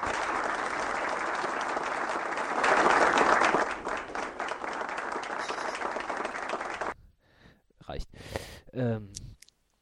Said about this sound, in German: Wir könnten auch klatschen danach.